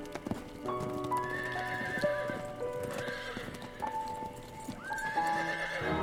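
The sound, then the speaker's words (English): The hooves of a driven team of mares clip-clop steadily on a drive while a horse lets out loud, wavering neighs and whinnies over the top, with no one speaking. “The horses came to an abrupt stop halfway down the drive.”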